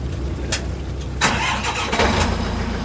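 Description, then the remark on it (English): A high-pressure shellfish washer imported from Japan starts up on a boat docked on Portland's waterfront in Casco Bay, washing live scallops: a steady low motor rumble, a couple of sharp bursts, then a loud hissing rush of spray over the running engine, with no voices. “On a boat docked on Portland's waterfront, he and a gaggle of young men from several Maine shellfish farms run live scallops through a high-pressure washer.”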